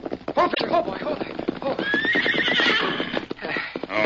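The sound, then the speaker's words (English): A horse, Victor, clip-clops steadily as Dan rides into the Lone Ranger's camp in the evening, its hoofbeats coming in a quick rhythm, and partway through it lets out a long, wavering whinny before the hooves continue. “When evening came, Dan rode into the Lone Ranger's camp to give his report.”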